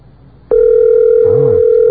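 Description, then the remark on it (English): A voice imitates telephone dialing tones for an overseas call to Korea: after a half-second of quiet, a loud, steady, pure mid-pitched hum starts abruptly and holds one pitch to the end, with a brief warbling wobble partway through. “How does your voice make all those tone-like noises, by the way?”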